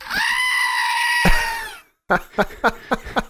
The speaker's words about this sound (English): May I offer a collective goat scream? I think you have to.